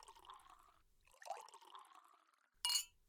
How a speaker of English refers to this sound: Let me put these in water and pour us some of this delicious wine you so thoughtfully picked out.